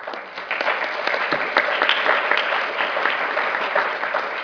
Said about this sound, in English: Oh, sorry, clapped one slide earlier. Well, you can clap again, no problem.